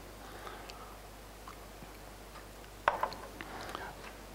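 Someone quietly takes a sip of water, a sharp click followed by a few soft swallowing and handling noises over a faint steady hum, with no talking.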